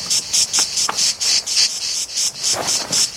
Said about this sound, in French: La cigale, hein. Dès qu'elle sent votre présence, elle s'arrête de chanter. Alors tu peux toujours courir pour la rattraper. Alors le secret, c'est qu'elle s'habitue à vous et qu'elle recommence à chanter.